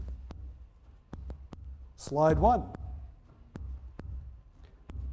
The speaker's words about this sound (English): They've got the headphones on. The headphones are amplifying their heartbeat.